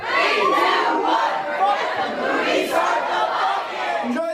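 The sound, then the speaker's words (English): A large audience at a movie screening yells together in a loud, sustained chant of "start the fucking movie", many voices overlapping in a dense roar that holds steady for several seconds with rhythmic swells. “And then people yell, start the fucking movie.”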